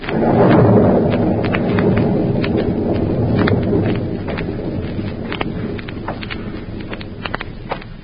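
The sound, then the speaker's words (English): A loud rolling rumble of thunder swells at the start and slowly fades beneath a steady whoosh of wind, with sharp crackles and taps scattered throughout, setting a stormy night at the former hideout of Professor Horn in Illinois in the radio drama Counter Spy; no one speaks. “And now back to Counter Spy, an eerie, stormy night at the former hideout of Professor Horn in Illinois.”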